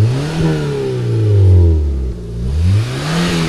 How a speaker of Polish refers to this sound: A silnik, tak jak stara syrenka, pyr. Nie, silnik jest nowoczesny, ekologiczny, niestety nie jest stara syrenka.